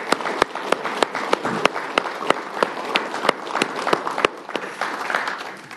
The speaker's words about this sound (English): And we want to, I think what we should do is give our gems a round of applause and our leaders a round of applause for what they do.